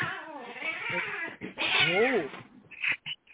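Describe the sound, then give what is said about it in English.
Cats fight with loud, drawn-out yowls and wavering caterwauls, then break off into a few short, sharp hisses and spits. “Cat bite.”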